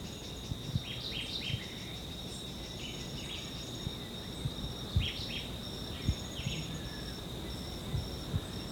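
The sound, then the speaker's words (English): Faint Jamaican white-eye calls come in short chirpy bursts, some ending in a terminal low buzz, over a steady high insect drone that runs through the whole recording. No one speaks. “This is still a white eye. It has a terminal low buzz.”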